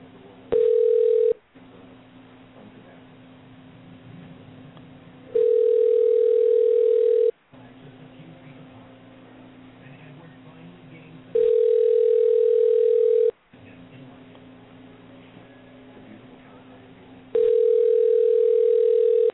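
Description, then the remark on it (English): A telephone call ringing out as someone tries to reach a person: four steady ringback tones, each about two seconds long, repeat at regular intervals over a faint line hum, with no one answering and no voices. “So let me try and get him on the phone here real quick.”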